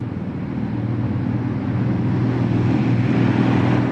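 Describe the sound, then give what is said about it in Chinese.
A Harley-Davidson motorcycle engine idles with a steady, deep rumbling drone, its low throbbing tone holding constant and growing slightly louder over a few seconds. No one speaks. “这是名牌摩托车 Harley Davidson”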